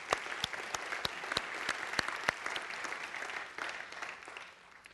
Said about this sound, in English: And so we owe them a huge round of applause.